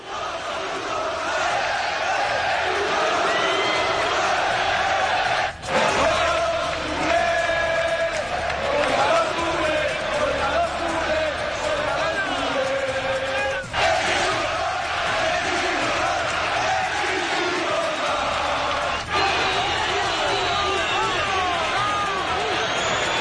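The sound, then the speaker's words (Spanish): A huge stadium crowd at Cornellà-El Prat during an Espanyol–Barça match chants and shouts insults in unison, including against Barça and Messi, a loud, dense roar of massed voices rising and falling, broken by two or three abrupt cuts between chants. “Mira, dejadme un segundo, que en 24 segundos precisamente me dice Día que ha rescatado el sonido que ponían los compañeros de la Sexta sobre los gritos e insultos de Cornellà el Prat en el Español Barça.”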